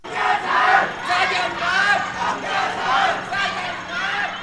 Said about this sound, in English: And they stood on the streets berating the police. Crowds on both sides of this big boulevard with the police in the middle yelled all manner of insults at them. You can hear the fury.